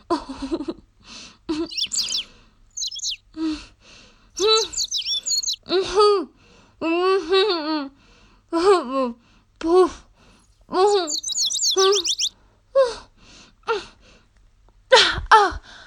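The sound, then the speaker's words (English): A bluebird chirps high up above a crack in the stones of a roof, in quick bursts of bright, sweeping notes and short warbles, repeating with brief pauses across the whole stretch, fairly clear. “Little bird. I can hear you. I can hear you high up above that crack in the stones of the roof.”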